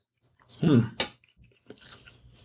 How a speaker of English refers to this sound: It's a filet mignon, isn't it? It's got, you know, this is a big chunk that might take me a minute or two to chew this up.